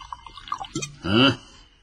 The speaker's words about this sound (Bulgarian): Наля на себе си. Наляй на мен и продължи.